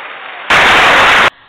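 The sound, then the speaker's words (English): A short, loud burst of canned applause played on the Every Woman Talk Show, a dense crackle of clapping that starts and cuts off abruptly after less than a second, with quieter sound on either side. “That was our applause, Vern. That was nice.”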